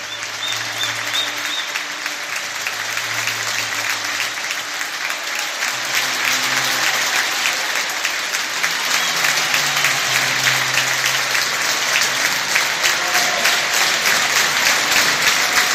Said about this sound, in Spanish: Cuando acabó el partido, ya medio Sardinero estaba fuera y así reaccionaba, porque hasta el propio Romo cogió del hombro a Pablo Torre y dijo: vete al centro del campo y disfruta, porque esta ovación que te está dando el estadio es para ti.